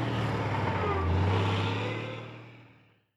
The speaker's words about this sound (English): A lorry takes the wheat to the mill. In the mill, people make flour. Then a lorry takes the flour to shops.